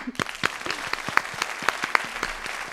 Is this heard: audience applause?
yes